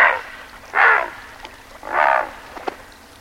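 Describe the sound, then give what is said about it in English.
Three harsh, raspy squawks from a great blue heron, each a rough, croaking burst lasting under half a second, spaced unevenly with quiet gaps between and no voices. “It may, but this sound comes from a present-day creature, the great blue heron.”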